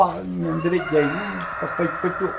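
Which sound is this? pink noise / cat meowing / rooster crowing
rooster crowing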